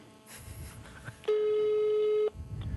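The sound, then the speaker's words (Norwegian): A phone call, dialed with #31# to hide the caller's number, rings out with one loud, steady electronic tone lasting about a second, with low rustling background noise before and after and no voices. “Hemmelig nummer. Firkant, 31, firkant.”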